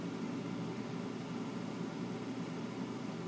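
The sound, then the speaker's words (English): An RV air conditioner runs with a steady, unbroken low drone and a soft airy hiss on top, holding the same level throughout with no voices or other sounds. “With the air conditioning going on in the RV here.”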